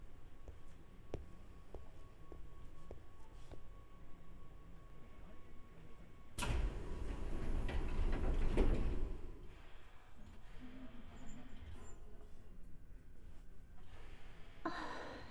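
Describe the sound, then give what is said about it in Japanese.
As a commuter train arrives at a station, its sliding doors open with a sudden loud hiss of air and rumble lasting a few seconds, amid the steady hum of the train interior. No one speaks. “降りる駅のドア向こう側だからそっちに移動しようか。”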